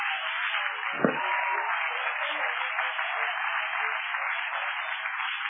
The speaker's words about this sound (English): Somebody clap your hands right now and love him.